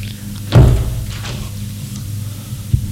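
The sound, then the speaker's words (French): An apartment door, opened by a servant, opens with a solid clunk and a brief creak-like scrape, followed a couple of seconds later by a softer click, all over a steady low hum. “Elle sonne à son appartement. La porte s'ouvre.”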